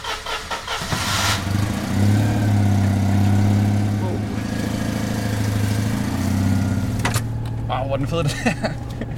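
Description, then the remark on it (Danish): An old Citroën's engine runs as the car is taken out, with a steady, low droning hum and a rattly mechanical texture, fairly loud throughout, with a brief clunk near the start and another toward the end. “Jeg skal bare lige have den her bil ud. Okay. En gammel Citroën.”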